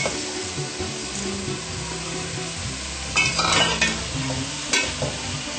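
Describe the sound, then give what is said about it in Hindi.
Vegetables (tomato, cabbage, capsicum, potato) sizzle steadily in a pan as peas go in. Two bursts of stirring and scraping stand out near the end, fairly loud. No one speaks. “टमाटर, बंद गोभी, शिमला मिर्च, आलू, इसके बाद इसमें हम मटर डाल देंगे।”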